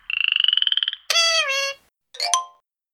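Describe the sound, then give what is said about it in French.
A frog croaks in three calls: a rapid buzzing trill first, then a longer rising-and-falling croak and a short final one, loud with brief silences between. “La grenouille.”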